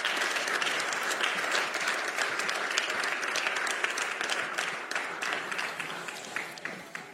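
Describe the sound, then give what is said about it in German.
Sustained applause from a crowd welcoming guests to a live talk, a dense wash of many hands clapping at steady loudness for several seconds, thinning slightly toward the end, with no voices standing out. “heißt sie mal ganz, ganz herzlich willkommen mit einem Applaus.”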